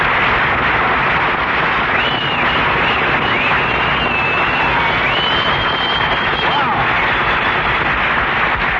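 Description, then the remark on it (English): A studio audience applauds loudly and steadily for about nine seconds, a dense wash of clapping with a few high whistles rising over it and no talking. “Well, listen to that, Mary. You got, you got more applause than I did.”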